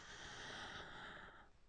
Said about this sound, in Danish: Og vi ånder ind en gang til.